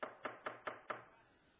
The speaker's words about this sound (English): Jesus knocking.